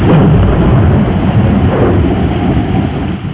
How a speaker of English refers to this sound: Peter, was that thunder? Yes, and lightning too.